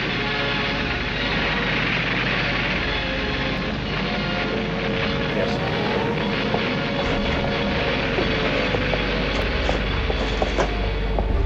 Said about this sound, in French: Sans répit, les avions allemands s'envolent vers l'Angleterre. Ils bombardent nuit et jour les buts militaires de la capitale anglaise.